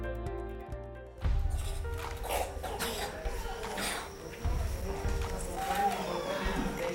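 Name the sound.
children's deep chest coughing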